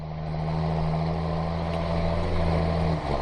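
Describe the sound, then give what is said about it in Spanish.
A diesel engine idles steadily, a low rumbling drone with a constant throb, like a tractor, continuing unbroken for the whole stretch with a slight dip near the end. “Bueno, es por ejemplo el sonido característico de un tractor.”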